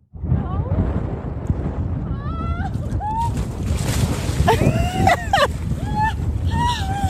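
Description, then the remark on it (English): Steady wind buffets the microphone outdoors at Lake Powell in Page during a jump into the very cold lake water, a constant low rumble throughout, with high chirping or squealing sounds and brief voices mixed in. “You can hear the wind, too.”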